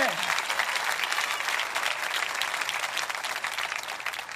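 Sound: audience applauding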